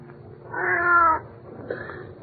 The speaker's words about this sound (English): Well, for the love of Pete, it's just a cat.